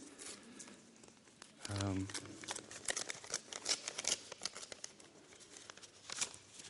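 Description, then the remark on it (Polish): Crisp paper noises: an envelope with no return address or stamp being torn open, then a single, almost blank sheet of paper crinkling and rustling in irregular bursts, with a brief voice-like murmur partway through. “Jest jedna kartka, prawie pusta.”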